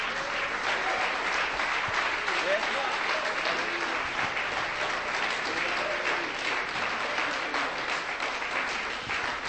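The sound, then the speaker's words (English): An audience breaks into sustained applause as a clap offering for the King of Kings, a dense, steady roar of many hands clapping at once for about nine seconds, with scattered voices calling out underneath. “You have not clapped.”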